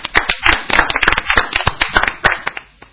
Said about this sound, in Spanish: Gastón Recondo, te vamos a dar un aplauso.